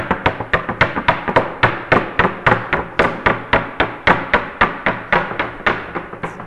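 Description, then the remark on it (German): A chocolate mould filled with chocolate is held straight with both hands and rapped against a tabletop again and again in a fast, steady rhythm, about four sharp knocks per second. The knocks are loud, with no talking. The tapping spreads the chocolate and releases air bubbles. “Und um das zu vermeiden, müssen wir jetzt erstmal so richtig klopfen.”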